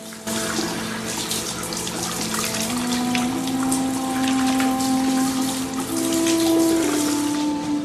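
A Marine switches on a tap at a sink at 5:45 a.m. and holds his hand under the water before dousing his face: a steady, continuous hiss of running water with a faint rising pitch as the flow fills the basin, no voices.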